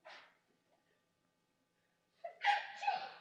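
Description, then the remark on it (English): A short breathy sound, then a pause and one sharp, explosive sneeze, loud against an otherwise quiet background. “Bless you.”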